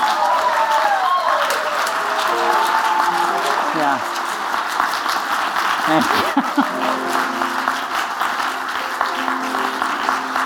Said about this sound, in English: You can clap, that's good. I haven't gotten applause forever.